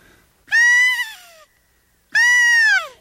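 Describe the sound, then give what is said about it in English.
Two loud blasts from an elk game call imitating a cow elk's mew, used to attract a bull elk; each a nasal, whiny tone sliding downward in pitch, separated by a short pause, with no talking. “So if you make a sound like a cow or a calf, this attracts them, too.”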